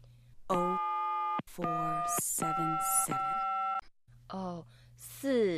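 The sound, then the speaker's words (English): A telephone ringback tone after dialing a call to the Rita May Originals shop sounds in several steady, buzzy pulses of about a second each with short gaps, fairly loud, then a voice begins speaking near the end. “Shh, it's ringing.”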